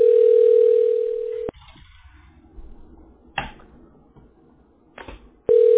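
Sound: telephone dial tone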